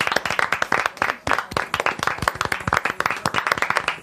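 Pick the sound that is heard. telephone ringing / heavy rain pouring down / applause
applause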